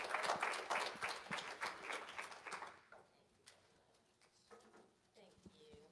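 An audience claps loudly and steadily for about three seconds as a speaker is invited back up on stage, then the applause quickly thins out into a few scattered, fainter claps.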